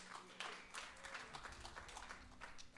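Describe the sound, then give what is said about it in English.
A crowd breaks into steady applause for a person invited to stand and come up during a church talk, many hands clapping together in a dense, continuous patter that stays fairly even, with a few voices faintly mixed in beneath it. “You get a clap already.”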